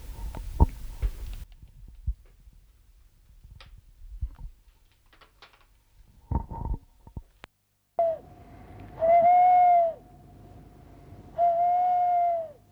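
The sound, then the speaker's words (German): After a stretch of faint rustles and soft thumps, an owl hoots: a short call, then two long, drawn-out hoots, loud and clear against a quiet background. “Den alten Gefängnisturm, wo die Eulen wohnten.”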